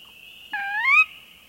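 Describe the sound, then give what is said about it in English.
A continuous high-pitched nighttime chorus of spring peepers in a freshwater marsh rings steadily throughout, with a sora rail's louder rising, whistled kerwee call cutting in briefly in the middle; pickerel frogs also call, and the frog chorus carries on alone. “Moving on to freshwater marsh, we are certain to find North America's most common rail, the sora, whose rising kerwee is heard here, along with the nighttime calls of spring peepers and pickerel frog.”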